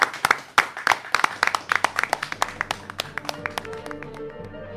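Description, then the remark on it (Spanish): A small group claps for three maestros after a live concert, with sharp, uneven hand claps that taper off and grow quieter toward the end, as a low steady tone emerges underneath. “¿Nos vamos con un aplauso para ellos?”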